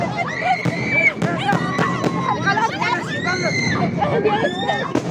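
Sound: explosions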